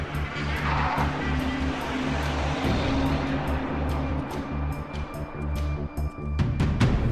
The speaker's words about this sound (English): Later at the sheriff's office, Joe hops in his car as a young man hurries toward him. He walks away as Joe peels out of his parking spot.